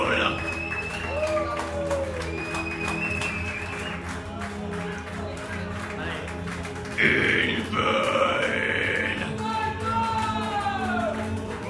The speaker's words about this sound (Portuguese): Mas eu quero uma salva de palmas para as bandas de …. Uma salva de palmas para ….